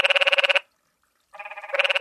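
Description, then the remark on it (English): A frog calls in two rapid, pulsing trills of bright, nasal beeps, each burst lasting about half a second, separated by a short silence, with no voices. “It's kind of a meep, meep, meep, meep.”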